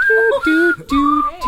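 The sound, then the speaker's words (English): A short whistled tune of a few held, wavering notes, fairly loud, with brief breaks between phrases and no talking over it. “I can't whistle.”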